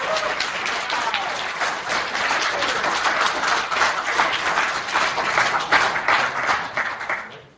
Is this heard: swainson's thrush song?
no